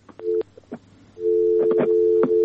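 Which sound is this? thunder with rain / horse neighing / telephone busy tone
telephone busy tone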